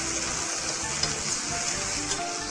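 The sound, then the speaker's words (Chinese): Vegetables, including water bamboo shoots and shiitake mushrooms, sizzle steadily in a hot wok after a little hot water is added and the lid is put on to braise them, a dense, even crackling hiss with small bursts of spatter, fairly loud, with no one talking. “好，我们这时候呢加一点热开水，然后呢我们把锅盖呢把它焖一下。”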